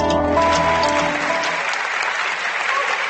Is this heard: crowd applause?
yes